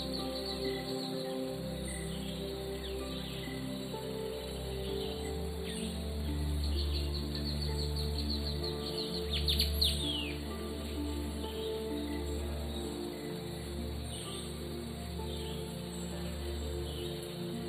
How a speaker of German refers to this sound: Du hörst die Geräusche um dich herum. Die Vögel. Vielleicht kannst du auch das sanfte Rauschen der Blätter hören.